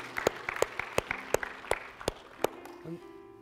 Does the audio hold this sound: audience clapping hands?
yes